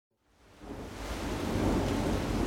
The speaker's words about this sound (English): It's pouring in Puebla, Mexico, the capital city of the state with the same name.